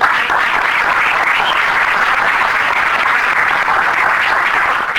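Sustained audience applause at an awards event for honorary award recipient Xavier Elorriaga, a dense, steady wash of many hands clapping at an even loudness for about five seconds, with no voices rising above it.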